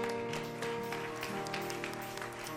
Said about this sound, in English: We thank Sister Alicia for that. Give her a hand clap.